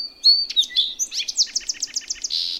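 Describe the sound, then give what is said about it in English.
An adult male songbird sings a bright phrase of rapid chirps and sweeping whistles, ending in a steady trilled buzz, with no other sounds around it. “As young male birds get ready to leave the nest for good, they hear their male parents singing again and again.”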